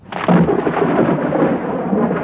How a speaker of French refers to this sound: Un jour, une énorme tempête se leva. La mer était si forte que le pêcheur ne put sortir son canot.